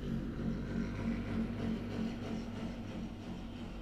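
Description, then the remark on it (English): A purge truck's heavy engine rumbles steadily as it drives past, a deep droning hum with a faint tonal whine on top, holding fairly even loudness for a few seconds. “The purge truck just rolled through.”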